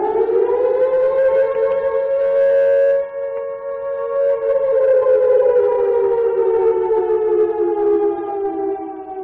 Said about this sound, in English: Yes, the loudest ever car alarm went on sale.